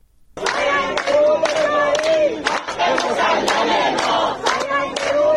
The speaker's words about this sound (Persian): جمعی از مردم اصفهان روز جمعه با تجمع و سردادن شعار حمایت خود را از کشاورزان معترض به نگرفتن سهمیه آب برای کشت پاییز اعلام کردند.